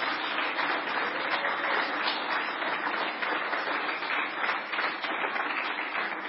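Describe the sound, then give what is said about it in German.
A church audience in Helmeroth claps steadily during a service to welcome a new member, a dense, even wash of many hands with no voices standing out, holding at a constant loud level throughout. “Ich denke, wir können mal klatschen.”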